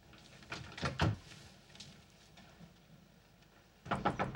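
A house door, closed from inside, swings slowly shut with a creak and a couple of soft wooden knocks, then a quiet pause before a louder clatter of handling and latching sounds.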